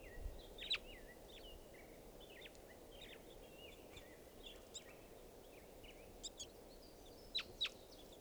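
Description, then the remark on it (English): Several birds call in a park, trading short, high chirps and twittering notes throughout, with a few sharper, louder calls near the start and end, over a steady low hum of background noise. “Birds are calling here.”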